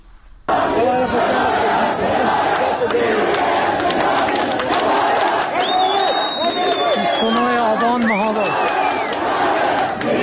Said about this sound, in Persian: یکی از کلانتری‌های مهاباد که در ویدیو منتشر شده تعداد زیادی از جمعیت دیده میشن که فریاد حمایت از جانب نیرو انتظامی میخوان. صدای راوی رو میتونیم بشنویم همراه مردمی که در این ویدیو هم در همین صداها پرتعداد بودنشون به احساس میشه.